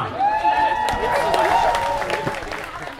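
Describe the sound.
An audience applauds steadily while shrill whistles and cheering voices rise over the clapping, sustained and loud for about three seconds.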